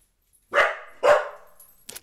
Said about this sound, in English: Okay, pause for puppy barking.